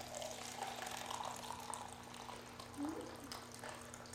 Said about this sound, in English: So this cup is now fulfilling its purpose. It is filled, in this case, filled with water.